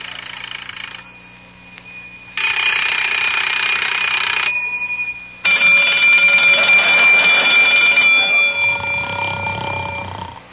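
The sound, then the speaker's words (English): An alarm clock rings loudly at 7:30 in the morning in two long, harsh bursts separated by a brief pause, after a quieter stretch of steady tone. No voices are heard. “In fact, every morning at 7:30, he springs out of bed the instant the alarm clock goes off.”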